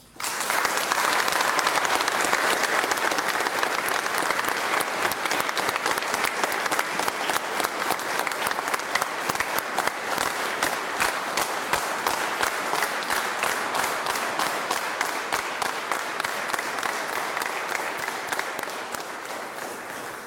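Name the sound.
pilgrims applauding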